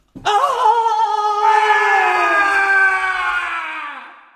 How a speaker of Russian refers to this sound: Конюх, собравшись с духом, прыгает в непроглядную темень ночи, и в ту же секунду за окном раздается душераздирающий крик.